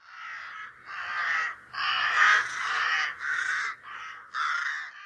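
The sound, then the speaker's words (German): A raven riding on a coach on a new-moon night caws in a series of about six harsh, raspy calls, fairly loud, with brief gaps between them and no other sounds. “So kam es, dass er heimlich in einer Neumondnacht, verwandelt als Rabe, mit dem Gevatter auf der Kutsche mitfuhr.”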